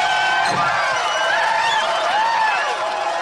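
crowd cheering

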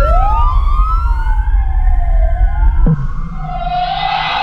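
police car siren

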